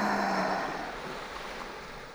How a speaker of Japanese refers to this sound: ザップーン。波音、いいよね。落ち着くよね。きっと、集中力も高まると思うよ。